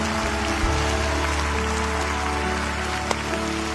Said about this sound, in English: Come on, Lakewood, let's give them a hand as they stand all over the building.